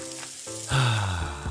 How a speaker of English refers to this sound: That's the sound of James adding long-lasting Gain scent boosters to his laundry this morning.